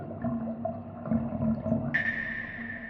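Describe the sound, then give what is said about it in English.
Water runs and gurgles down the drain of a porcelain sink, a steady watery rush with hollow tonal burbles, and a thin high whine joins near the end. “He stares at the sink as the water trickles down the drain, his chest heaving up and down.”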